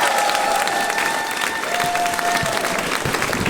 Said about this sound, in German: Aber eigentlich gilt ja der Applaus euch, weil ihr habt ja Eintritt bezahlt.